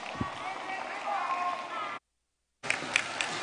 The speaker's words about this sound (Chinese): 让我们再次以热烈的掌声感恩大慈大悲的观世音菩萨，感恩大慈大悲的卢军宏台长